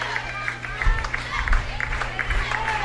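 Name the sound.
stadium fans cheering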